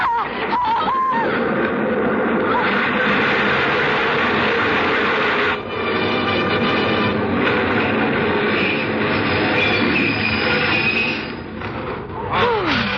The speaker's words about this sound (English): Oh, the train was in and out.